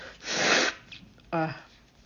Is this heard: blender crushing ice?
no